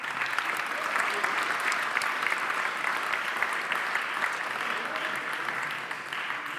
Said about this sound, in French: Merci. On peut l'applaudir, hein ?